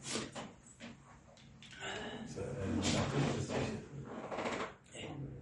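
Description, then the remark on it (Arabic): A chair is dragged and shuffled into position, being brought over and moved to a different spot, with scraping, knocking sounds, while people talk in the background. “نعم جيب الكرسي لنا. اي الحين بحرك الله غير مكانه.”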